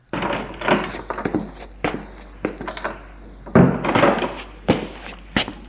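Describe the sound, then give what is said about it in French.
Irregular dull thuds and knocks, footsteps approaching along a corridor followed by knocking on a door, moderately loud, with no voices. “À peine entré qu'il entend des pas dans le couloir et l'on frappe à la porte.”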